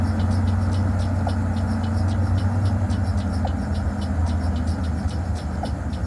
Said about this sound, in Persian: واسه فرار ماشین روشن نگه دار.